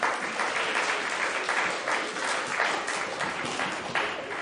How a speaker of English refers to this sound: Brilliant. Thank you very much indeed. Big round of applause for you.